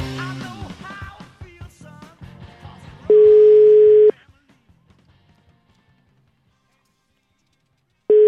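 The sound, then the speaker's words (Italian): A telephone ringback tone as someone calls a person back: after a few seconds of voices, a loud steady beep sounds for about a second, followed by a long silent gap before the tone starts again. “Richiamalo un po' questo.”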